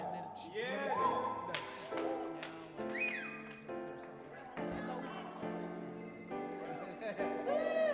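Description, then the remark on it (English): A cell phone rings with a bright, melodic ringtone, its tones stepping between pitches for several seconds while voices and other sounds mingle underneath. “No cell phones. I turned the cell phone on.”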